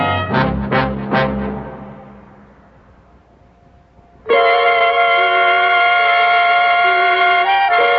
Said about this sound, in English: I can hear the traffic.